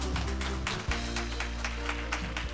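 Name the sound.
audience applause welcoming speakers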